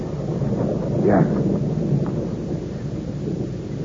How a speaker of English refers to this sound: In this rain? Yes. Monsieur, it has started to rain.